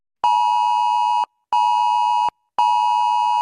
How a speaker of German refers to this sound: So klang es am Vormittag aus vielen Handys. Beim bundesweiten Warntag in Deutschland sind die Warnsysteme für den Katastrophenfall getestet worden.